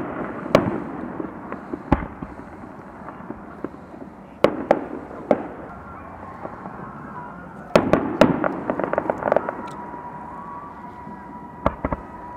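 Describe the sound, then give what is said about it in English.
Fireworks crack and pop repeatedly at a carnival on the beach on May 19th, with sharp bangs scattered irregularly and a quick flurry of bursts in the middle, over a steady outdoor rumble. “I think they're just having a carnival at the beach, and they decided to have fireworks, too.”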